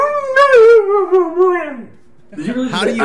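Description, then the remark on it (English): A dog lets out a long, wavering howl that slides downward, then after a short pause gives a second warbling, up-and-down yowl, loud, almost like it's trying to talk. “I quoted the dog. I quoted him properly.”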